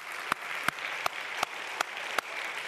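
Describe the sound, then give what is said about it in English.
A church audience claps together in a steady rhythm for God's blessing, six sharp unison claps evenly spaced over a continuous wash of scattered applause, with no talking. “Clap your hands for the blessing.”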